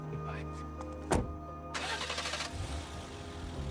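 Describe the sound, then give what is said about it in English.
A thud, then the engine of a Mini Cooper cranks and catches, settling into a steady low running rumble as the car begins to pull away. “Stefan stays by the door and watches the small car drive away.”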